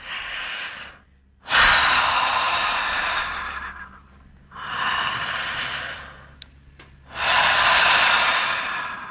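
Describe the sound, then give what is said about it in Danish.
Slow, deep breaths drawn in and pushed out, loud and airy, forming three long breathing cycles with brief pauses between them; no one speaks. Taken at the start of a Radio 24/7 programme recorded in a living room at home. “Må jeg lige tage bare lige tre dybe åndedrag, ja, så?”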